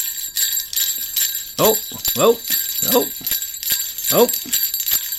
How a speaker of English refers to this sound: It's the jingle bells. It's the jingle bells.